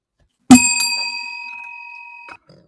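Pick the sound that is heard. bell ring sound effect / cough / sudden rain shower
bell ring sound effect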